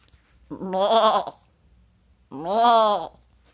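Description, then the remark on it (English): A goat bleats twice, two loud, wavering, nasal calls about a second each with a short pause between them, clear with no other sounds around. “Let's see what Inspiration Goat has for us today, shall we?”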